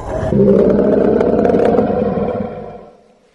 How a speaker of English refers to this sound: Again the lion roared, and it almost seemed as though the earth trembled.